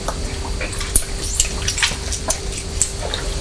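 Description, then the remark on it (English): Water pours steadily into blackcurrant juice in a cup or jug, a continuous splashy trickle with small bright drips and bubbling, moderately loud, with no voices. “It's the blackcurrant juice. There's water. It's got water with it.”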